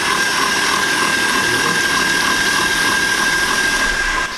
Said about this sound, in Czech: Rozbijeme si naše 3 vajíčka. K ním si nasypeme cukr krupice a půjdeme šlehat. Vezmeme si balonovou metlu do robota na nejvyšší otáčky a pak 10-15 minut, ať se nám to šlehá.